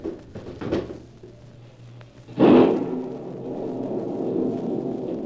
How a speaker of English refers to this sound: I want to hear the storm. I want to hear the thunder crash and the wind scream.